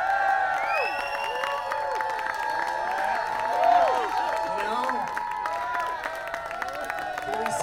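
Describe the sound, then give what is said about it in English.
A large crowd cheers and applauds steadily, many voices shouting and whooping over a constant patter of clapping, loud and sustained throughout with a brief swell in the middle. “They traveled a long way, and they've got to go home to family and friends, but, I mean, they love you guys, too, so why don't you go out and just keep cheering, and let's get them back out of here.”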